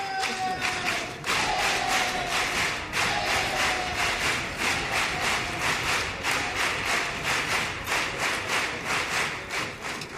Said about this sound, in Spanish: Gracias por esos aplausos espontáneos que han salido.